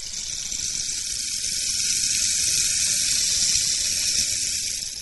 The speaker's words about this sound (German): Was ist das? Also das ist ein Regenmacher. Man muss ihn langsam drehen. Also es hört sich dann wie Regen an.